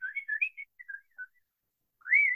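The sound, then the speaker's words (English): A person whistles a quick run of warbling, birdlike chirps, falls silent briefly, then finishes with a longer rising whistled note. Clear, with no talking. “And she makes all these whistling sounds.”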